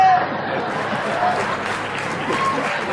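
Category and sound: crowd, theatre audience applause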